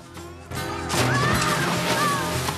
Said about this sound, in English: falls straight into the water.